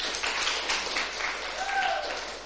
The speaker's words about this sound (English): Let's give the worship team another big hand clap.